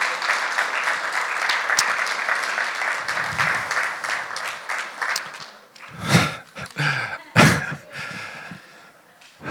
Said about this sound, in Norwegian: Sånn, da ønsker vi dere god tur. Gi dem en skikkelig god applaus.